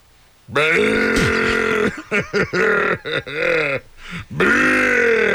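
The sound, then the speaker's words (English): A voice imitates a camel with a long, throaty grunting bellow, followed by a series of choppy gurgling grunts and a final drawn-out groan, loud. “How about a camel?”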